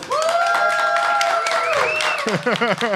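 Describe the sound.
An audience applauds with steady, dense clapping, a long rising whoop of cheering riding over it, before voices break in near the end.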